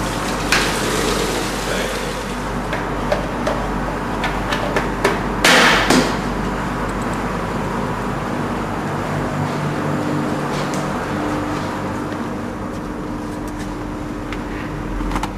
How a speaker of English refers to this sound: I'm making a cup of tea. How? Okay, first, I'm filling the kettle with water.